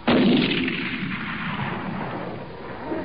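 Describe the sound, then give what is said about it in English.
A single loud rifle shot, fired at a lion, cracks out sharply, then its booming report rolls on and slowly fades over the next few seconds. No voices are heard. “Marius even dropped the rifle.”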